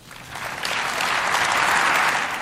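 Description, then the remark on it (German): Sustained applause from a large group in the German Bundestag after a bill is passed with the required two-thirds majority, a dense even wash of many hands clapping that swells after the first half second and holds steady, with no voices standing out. “dann irgendwann kam das Klatschen”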